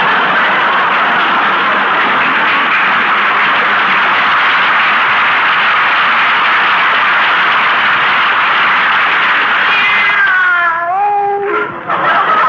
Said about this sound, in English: Oh, stop drinking those pine needles, Minerva. Come over here. That's a good kitty.